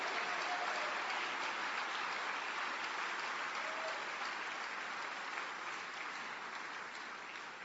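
A large audience applauds steadily to celebrate the people gathered outside, a dense wash of clapping from many hands that holds for several seconds and slowly eases in loudness toward the end.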